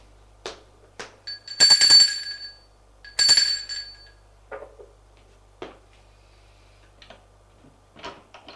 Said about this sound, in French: Arrivé à l'étage, Frédéric va sonner à la porte de l'appartement.